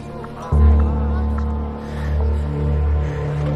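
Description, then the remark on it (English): A car engine starts up with a low, steady rumble and keeps droning as the car drives off around a corner, its pitch shifting slightly as it pulls away. “The car leaves around a corner.”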